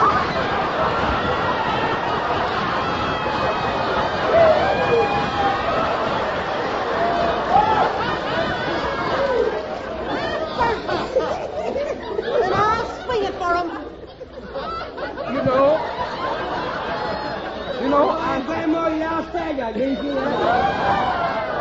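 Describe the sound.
A crowd murmurs and chatters steadily, many overlapping voices blending into a continuous hubbub with scattered snickers and laughs rising out of the babble throughout.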